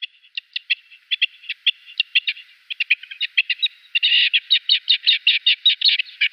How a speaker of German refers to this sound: Genau, es ist das Steinhuhn.